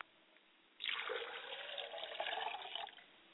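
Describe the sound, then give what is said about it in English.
Water is poured onto the ground toward the north as a libation, in one steady stream lasting about two seconds, splashing with a bright hissing rush before it stops abruptly. No one speaks. “I pour libations to the north, and I say, Ashe.”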